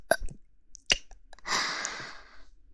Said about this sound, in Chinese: 怎么又打嗝了？看来我男朋友真的把我喂得好饱。